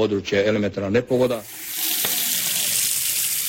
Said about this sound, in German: Dieses Geräusch aus dem Wasserhahn hören die Bewohner des Kosovo derzeit nur stundenweise. Seit Wochen hat es vor allem im Norden des Landes und in der Hauptstadt Pristina nicht mehr geregnet.